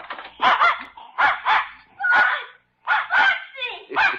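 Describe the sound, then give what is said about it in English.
Spot, a dog let out of a door to greet a boy, barks excitedly in quick bursts, mostly paired yaps with a whiny, yelping edge, loud and repeated for several seconds with brief gaps between. “I can't tell which one of them is wagging most, boy or dog.”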